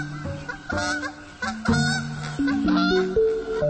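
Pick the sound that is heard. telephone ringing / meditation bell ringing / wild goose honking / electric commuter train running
wild goose honking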